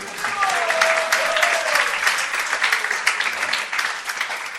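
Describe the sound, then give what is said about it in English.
A crowd breaks into steady applause for Prahlad, dense clapping filling the space for several seconds at a fairly loud, even level, with a faint voice briefly audible underneath near the start. “Well done for Prahlad. He gets an applause.”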